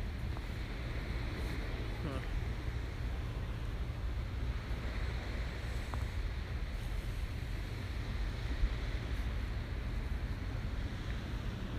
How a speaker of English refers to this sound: I love the sound of the waves. Yeah, the sound of the waves.